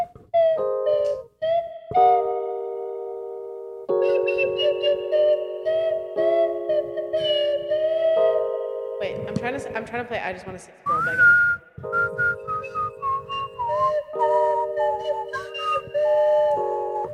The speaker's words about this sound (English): The Pied Piper to me looks like Robin Hood. Playing a slide whistle.